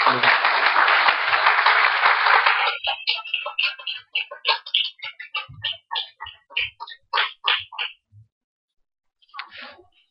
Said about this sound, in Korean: 목사님 나오실 때에, 우리가 잘 알지만 오늘은 또 말씀을 전하시러 나오니까 박수를 한번 환영하고 격려하겠습니다.